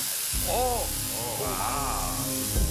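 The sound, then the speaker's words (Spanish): A Tesla coil's electric arc, aimed at a methane-filled balloon protected by a cage on a TV set, gives a loud, continuous buzzing crackle with a harsh hiss that runs for the whole few seconds, while faint wavering tones rise and fall beneath it. “El arco voltaico exactamente el mismo, pero no consigue llegar al globo porque se crea...”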